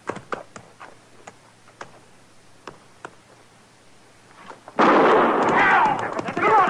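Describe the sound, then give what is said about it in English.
A single gunshot, fired to start a horse race, cracks out suddenly after several seconds of faint, scattered ticking, and a loud, noisy roar carries on for the remaining couple of seconds. “Now I'll fire one shot.”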